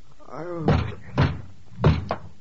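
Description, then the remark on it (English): Three heavy thuds pound against a door at uneven intervals, loud, as police knock to be let in, with a brief vocal sound just before the first blow and a lighter knock trailing the last. “Oh, don't tear the door down.”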